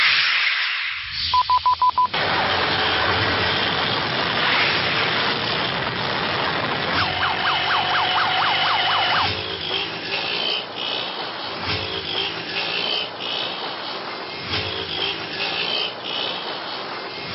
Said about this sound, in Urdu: لوگ کس طرح موٹر سائیکل چلاتے ہیں اور کچھ حادثات جو ہوتے ہیں اس کی بھی کچھ ہم نے جھلکیاں رکھی ہیں، تاکہ موٹر سائیکل چلانے والے تھوڑا سا دیکھیں کہ کیا حال ہوتا ہے.